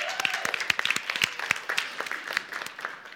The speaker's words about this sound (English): He's completed his seminary. We will be ordaining him in the late spring as a church. So, yeah, you can applaud for that.